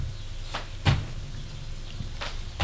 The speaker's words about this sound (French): Puis, à l'intérieur de la bibliothèque, il fait marcher une serrure secrète qui ouvre une porte cachée par les livres.